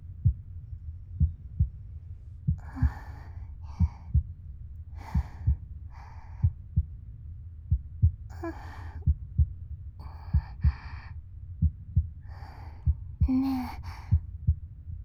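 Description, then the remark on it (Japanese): A steady, muffled heartbeat heard through a chest thumps in regular low pulses, with soft breathy sighs and breaths drifting over it at intervals. “生まれたての赤ちゃんって心音を聞かせると泣き止むんだって。”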